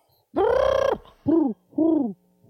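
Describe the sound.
A person vocally imitates a chicken: one long, drawn-out, voiced cry followed by two shorter, falling calls, loud and harmonic, with no talking around them.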